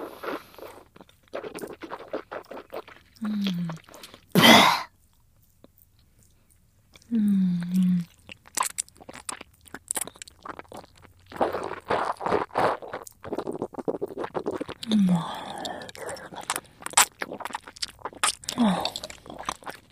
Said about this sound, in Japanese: 唾液を口に溜めたまま咀嚼して、あら、汚い音でしょ。